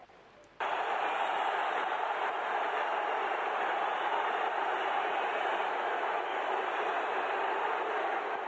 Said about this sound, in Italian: Questi sono i tifosi che accompagnano la rissa tra giocatori in campo alla fine della partita.